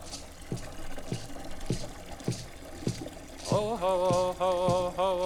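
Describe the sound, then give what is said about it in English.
Water trickles and splashes in a steady rhythm of soft drips roughly every half second, then a wavering, sustained musical tone swells in and continues over the water for the last couple of seconds. “That is what we started with too, water.”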